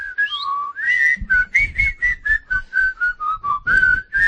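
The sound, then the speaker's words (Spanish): A person whistles a short melody, a run of clear notes in a steady, march-like rhythm with audible breathy puffs between them. “Es que a mí me da la risa cuando silbo.”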